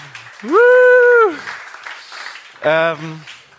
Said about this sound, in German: Ja, Applaus für den Samu, der ist leider noch nicht da.